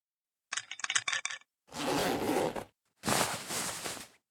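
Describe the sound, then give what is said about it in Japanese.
A quick ratcheting zipper run, a string of crisp clicking teeth, followed by two broad rustling swishes of fabric as pants are tugged down. No voices. “では、そろそろ、 パンツを下ろして、一番匂いが強いところをお出しください。”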